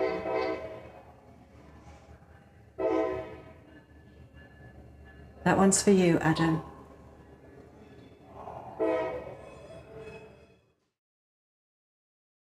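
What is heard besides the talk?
train horn blowing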